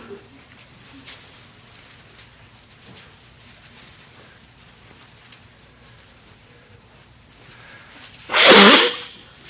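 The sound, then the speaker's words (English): After several seconds of faint low background hum, a preacher about to preach a sermon lets out one sudden, loud, harsh burst of nose blowing near the end, lasting under a second. “Blowing my nose and hacking and coughing, eyes running.”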